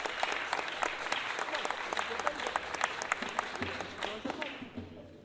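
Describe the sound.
A crowd applauds steadily for several seconds, dense overlapping claps at moderate loudness, with faint voices mixed in before the clapping thins out near the end.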